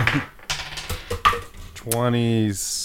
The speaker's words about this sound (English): Perception check? Sure. Finally, some dice rolling.